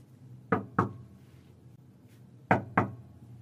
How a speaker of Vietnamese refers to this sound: Bên ngoài vang lên tiếng gõ cửa và tiếng gọi vọng vào của ….